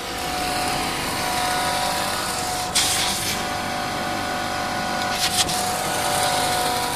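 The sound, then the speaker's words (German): A carpet dyeing and printing machine runs with a steady, loud mechanical drone and a thin tonal hum, broken twice by short bursts of bright, hissing spray as its spray head moves back and forth over the carpet, spraying dye at 2 bar through 64 nozzles to print a logo. No one speaks. “Die Maschine setzt sich in Gang. Es wird ziemlich laut.”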